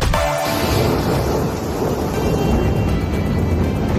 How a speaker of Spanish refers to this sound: Bueno, así lleva sonando España desde anoche, con lluvias, tormentas muy, muy fuertes y miles de rayos.